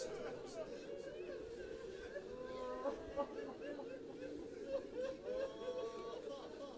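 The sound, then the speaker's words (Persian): A crowd of voices weeping and sobbing together during prayer in a steady, continuous mass, with wavering, rising and falling wails breaking out above the low murmur throughout. “کسی اگه رد شه ندونه خیال میکنه شما داغ جوان دیده.”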